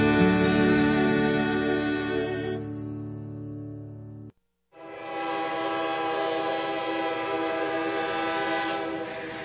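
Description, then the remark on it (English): A loud train whistle blows in two long, sustained toots separated by a brief silence, with the rumble of a moving train underneath. “Hear that train go clickety-clack, tooting its whistle and blowing its stack.”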